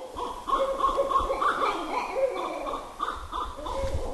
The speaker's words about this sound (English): First, he plays a recording of a barred owl. Soon, a real barred owl starts hooting.